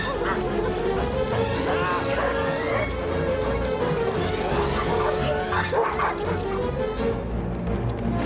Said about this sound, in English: Harvey and Vernon come running out into the yard, chased by a pack of dogs.